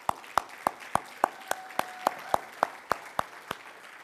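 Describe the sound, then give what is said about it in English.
Audience applause for all fathers at a church gathering on Father's Day, in a steady, even rhythm: about fourteen sharp, crisp claps in quick succession over a low, faint background hum. “Brothers and sisters, it is awesome to be here today, and it is Father's Day, and I want to just round of applause for all fathers.”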